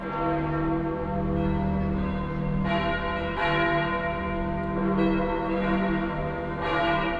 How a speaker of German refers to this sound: Über alle Länder der Christenheit klingt der Ruf der Petersglocken in Rom. Und die Glocken der ganzen Welt fallen ein in ihren Gesang, als Ruf und Mahnung, als Gebet und Trost.